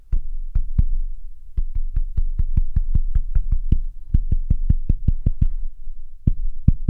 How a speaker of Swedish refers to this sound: Du vet, mina ungar gör det här till exempel. De tycker att det är en rolig lek, att man knackar en låt i typ köksbordet och sen, ja, så, det, och sen så ska det. Jag gissa vad det är för något. Okej, lyssna här.